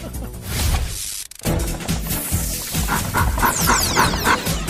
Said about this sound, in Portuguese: Olha o cachorro.